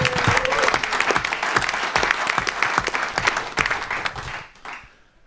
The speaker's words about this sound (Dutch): Dus die mensen die doen echt fantastisch werk. En daar wil ik echt een oorverdovend applaus voor hebben.